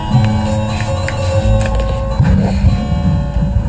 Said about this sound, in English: There's a buzz in the background. That's because I turned the air conditioner on. Got a little toasty in here.